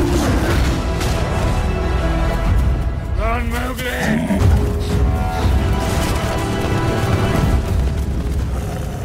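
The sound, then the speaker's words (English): A deep, rumbling roar of a computer-generated tiger in a film scene swells over a dense, loud cinematic soundscape of low booms and orchestral texture, with a voice briefly rising through the middle. “He's talking to a tiger and a panther, both of which are computer generated.”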